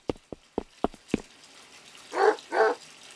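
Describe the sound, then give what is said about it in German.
A dog in a bathtub gives two loud barks in quick succession, preceded by a string of five sharp knocking or tapping sounds. “Was macht denn der Hund in der Badewanne mit meiner Taucherbrille?”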